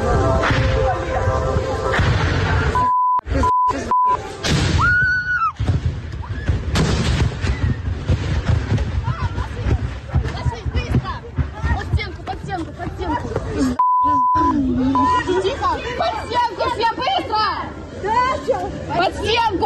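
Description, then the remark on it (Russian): A rapid, continuous crackle of cluster submunitions bursting after a missile strike in Sevastopol, with frightened people shouting and screaming as they try to shelter from fragments by a wall; a few short bleep tones cut in briefly. “Люди в панике пытаются укрыться от осколков ракет у стены. На фоне слышно, как разрываются кассеты.”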